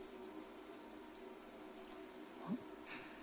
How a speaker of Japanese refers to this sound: ジャバジャバ、ジャバジャバ、泡をどんどん洗い流して。